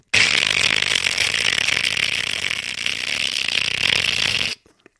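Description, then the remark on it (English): A voice imitates a malfunctioning alarm clock on a mantelpiece above a fireplace, its hands spinning, with one harsh, loud, unbroken buzzing rasp held steadily for about four and a half seconds before cutting off abruptly. “And I woke up because the clock was doing this.”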